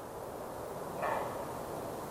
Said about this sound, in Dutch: Hoor je het? Wat was dat? Dat blaft, ja, ik denk dat het een edelhert is die een beetje roept.